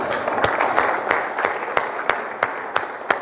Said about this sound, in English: I noticed y'all clap for yourself even. That's okay with me too.